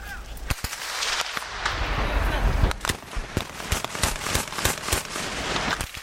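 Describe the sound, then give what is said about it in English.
Repeated sharp gunshots crack out in irregular bursts, some loud, others quieter, over a rumbling background of battle noise, with faint voices in the mix: gunfire between Sudanese forces and rebels on the border between Sudan and South Sudan, in the Blue Nile and Nuba Mountains. “On the border between Sudan and South Sudan, the citizens of the Blue Nile and Nuba Mountains live with the sound of warfare, gunfire between Sudanese forces and rebels who would prefer to be part of South Sudan.”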